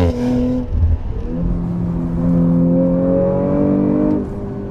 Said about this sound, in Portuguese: Mas com o V6 biturbo 2.9 de 450 cavalos, ele ainda impressiona demais. Acelera forte e o ronco do motor, o barulho do V6 impressiona muito.